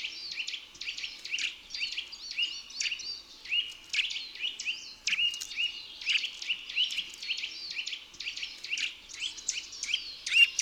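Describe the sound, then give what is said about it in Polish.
A female bird's short, dull chirps repeat in quick succession for the whole stretch, fairly steady in level, with no voices or other sounds. “Głos samicy to pojedyncze, ciche, tępe ćwierknięcia.”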